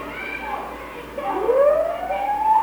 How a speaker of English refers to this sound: Mother sirens coming in the area now. Which is a police.